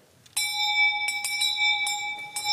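A bright, high-pitched bell rings repeatedly in quick, uneven shakes to call people to supper, its clear tone sustaining and shimmering between strikes. No voices are heard.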